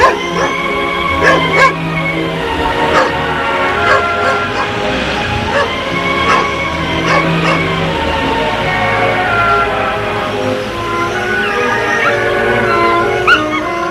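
A dog whimpers and whines excitedly with high, wavering cries, breaking into a few sharp barks, fairly loud over about fourteen seconds, as it runs to greet a boy coming home from school.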